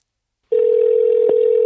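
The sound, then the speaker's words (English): After a short silence, a loud, steady telephone line tone hums continuously as a phone number is tried, broken only by one brief click partway through, like a key being pressed. No one speaks. “Let me just try this one phone number I have.”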